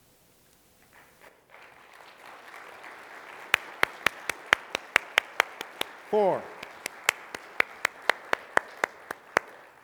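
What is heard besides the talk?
audience applause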